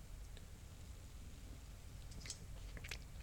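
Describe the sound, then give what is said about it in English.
A quiet sip of an amber beer with 8% alcohol, soft wet mouth sounds and small slurping clicks over a low background hum, ending with a brief louder smack. “And now just have a sip.”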